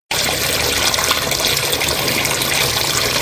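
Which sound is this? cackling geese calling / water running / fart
water running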